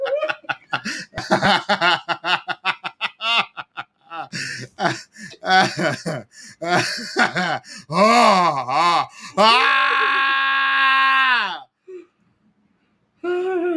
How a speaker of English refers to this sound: Stop screaming. Why are you hollering?